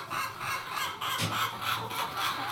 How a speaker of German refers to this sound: Und das hört man so, wenn die so gackern, wenn die so gackern, da wie die da hinten, ja. dann haben die gerade ein Ei gelegt. Ach, sie freuen sich über das gelegte Ei.